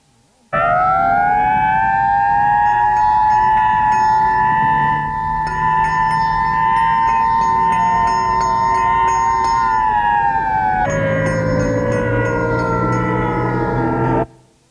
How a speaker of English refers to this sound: The fire engine for this sound?